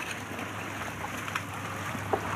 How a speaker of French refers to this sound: On navigue de nuit sur le bateau d'un biologiste, et dans ce paysage obscur, presque irréel, le chercheur coupe soudain son moteur.